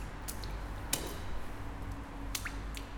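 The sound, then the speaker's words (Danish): A foot is deliberately used to splash in a shallow puddle in a big city just after New Year: a few soft, irregular wet slaps and squishes, fairly faint over a steady low background rumble, with no voices. “Så jeg ligesom brugte foden til at få vandpytten til at lave nogle lyde, og optog det, som er blevet en fin lyd, som jeg tog med.”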